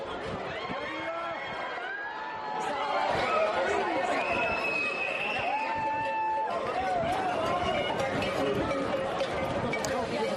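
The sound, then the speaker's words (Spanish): A dense, excited crowd at a running of the bulls (encierro) in La Rioja, Spain, many voices chattering and shouting at once, growing louder after a couple of seconds, with sharp whistle-like cries rising over the steady roar. “ya lo escuchas, ¿eh? Y la tradición corre delante del toro”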